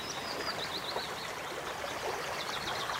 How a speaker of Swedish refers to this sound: Och det är så kraftfullt att vara nära ett vattendrag så här. Jag sitter ju nu på kanten och det är väldigt svårt att ta sig fram faktiskt. För att vattnet har ju verkligen tagit landskapet i sitt grepp.